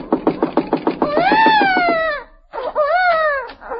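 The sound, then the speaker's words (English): A baby left alone in a house crying: a quick run of stuttering sobs breaks into a long, loud wail that rises and falls in pitch, then after a short pause a second, shorter wail follows. “Leaving a baby in a house alone.”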